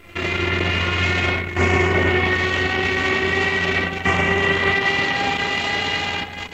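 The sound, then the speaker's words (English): A wood planing machine that planes wood on all four sides runs on the testing floor of Yates American in Beloit, with a loud, steady mechanical roar and layered whining hum, dipping briefly twice before surging back, with no voices. “Now, here, we have a planing machine. It planes wood on all four sides.”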